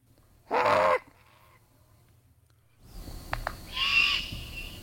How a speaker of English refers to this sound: But let's play this juvenile great horned owl